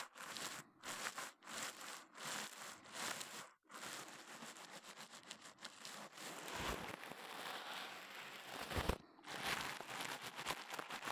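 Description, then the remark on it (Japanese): Repeated brush strokes sweep and scratch in a steady rhythm, some short and quick, others longer, with a breathy, bristly hiss. Fairly loud and alone, with no talking over them. “私の声、筆の音、吐息にも全部ね、聞き逃さないで。”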